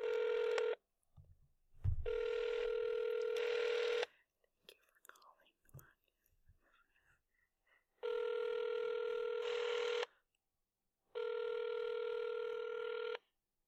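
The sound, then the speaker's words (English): A phone's steady electronic tones sound in long bursts: a tone, then another after a brief rustly pause with quick dial-like blips, followed by two evenly spaced ringback tones separated by silence. Clear. “How about we just call her straight out?”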